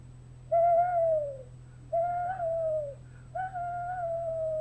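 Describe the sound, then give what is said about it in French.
A person imitates an owl with three long, wavering hoots, each about a second long and separated by short pauses, sung fairly loud over a low steady hum. “Par exemple, j'allais dans la forêt, j'avais 13, 14 ans, et j'essayais de parler avec les hiboux, comme ça, enfin, je vais essayer.”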